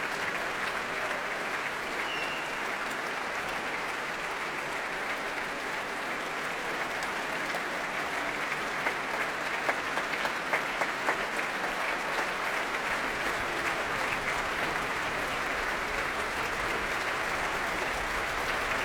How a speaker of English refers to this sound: Ilan Volkov still applauding his orchestra, the orchestra of which he was chief conductor for 6 years.